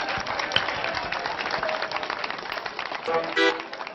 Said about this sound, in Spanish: ¡Aplausos, señores, que esto es Clave Guajira!